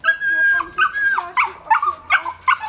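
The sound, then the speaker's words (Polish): Two small dogs whine in a long high-pitched whimper, then break into a quick series of sharp yips and short barks, fairly loud, as their owner takes them down the stairs from the 11th floor of an apartment block on Hubala Street where all the lifts have broken down. “Na 11 piętrze mieszkam i z dwoma pieskami schodzę.”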